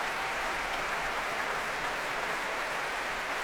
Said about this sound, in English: Oh, that cheer is for Polyphony. Stephen Layton bringing his choir to their feet.